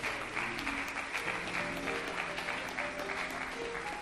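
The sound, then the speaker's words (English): An audience claps their hands in praise of God during a sermon, a steady, dense burst of applause that holds loud and even for about four seconds, with faint tones and murmuring beneath. “Let's give God a hand clap of praise in this place.”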